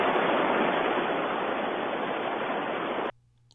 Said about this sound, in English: A river running.